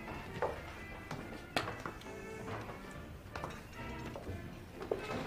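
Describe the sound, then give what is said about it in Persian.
Footsteps come down a flight of stairs into a café, a handful of hard, spaced taps at an uneven pace, set against a steady low hum with light background clatter as workers move chairs around. “از پله ها میاد پایین.”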